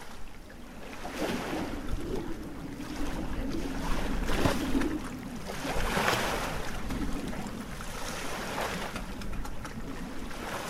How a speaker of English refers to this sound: Folding, unfolding, waves as the wind shifts and the waters rise. Pulse, the plaint of oyster catchers, lapping of the loch, wind in the reeds.